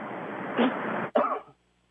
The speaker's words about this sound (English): I'm really sorry. I was in a coughing fit for a minute because I've got a cold.